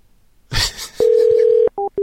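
A brief handset clatter is followed by a steady telephone tone and then short, evenly spaced disconnect beeps, as a woman answers a phone call and immediately hangs up. No one speaks.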